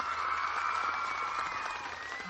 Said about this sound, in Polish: Kochani, bardzo gorącymi oklaskami witamy widzów telewizji, trwami słuchaczy Radia Maryja z Jasnej Góry. Ich pozdrawiamy gorącymi oklaskami.